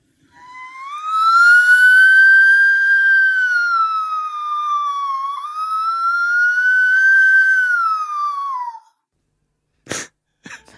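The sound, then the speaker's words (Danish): A voice imitates an ambulance siren, holding one long, loud wail that rises and dips slowly for about eight seconds before cutting off, followed by a brief sharp click. “Jeg kan lyde som en ambulance, sirene, hvad man nu kalder det.”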